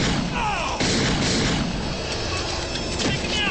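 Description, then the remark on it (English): Glass shoots a man waiting with a gun on the stairs to a roof as police arrive: a few sharp gunshots crack out over a loud, dense wash of rumbling noise, with bangs landing at uneven intervals and no clear talking. “Stay back! Glass shoots him.”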